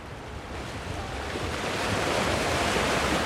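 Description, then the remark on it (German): Waves wash steadily onto an endless sandy beach on Gotland, Sweden, a broad hissing surf that swells slightly louder toward the end, with a light breeze rustling underneath. No voices. “Ein schwedisches Südseeparadies mit endlosem Sandstrand und einer leichten Brise.”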